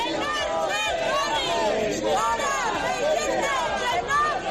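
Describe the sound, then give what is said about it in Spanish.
A loud, dense crowd boos and shouts "fuera fascistas" at defendants convicted over assaults at the 9 October 2017 demonstration as they leave the Ciudad de la Justicia in Valencia, Spain; many voices overlap in a continuous roar of chanting and jeering with rising and falling bursts of yelling. “Al grito de fuera fascistas han sido abucheados a la salida de la Ciudad de la Justicia en Valencia.”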